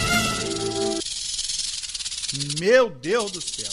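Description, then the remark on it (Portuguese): A rattlesnake shakes its rattle in a steady, dry, high buzzing hiss that runs unbroken through the whole clip, while a voice speaks and exclaims over it in bursts. “Olha o chucalho dele.”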